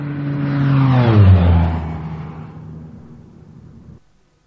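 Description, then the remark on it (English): An airplane passes overhead, its droning engine roar swelling loudly, then sliding down in pitch as it fades away over a few seconds before cutting off abruptly. No one speaks. “An airplane flew overhead and I couldn't hear.”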